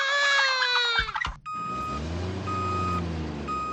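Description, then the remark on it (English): A big truck backs up, its engine rumbling low and steady while a loud, high reversing beep sounds in long, evenly spaced tones. A brief wailing cry comes just before. “The ghost pushes a crying baby in a carriage and backs up a big truck.”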